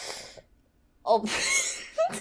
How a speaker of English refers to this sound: There was like a little burp that came with me gasping.